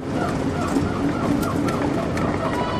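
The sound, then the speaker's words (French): Outdoor zoo park ambience at the Parc du Rénou, a steady dense wash of birds calling and chattering, with some cooing and clucking sounds mixed in and brief sharper cries standing out now and then. “Toujours ici au sein du parc du Rénou”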